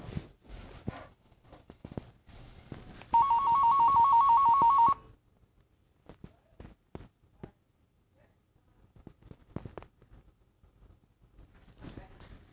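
telephone ringtone ringing

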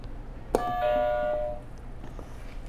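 buzzer

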